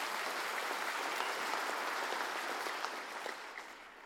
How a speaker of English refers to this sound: Give him a hand clap of praise in this house today.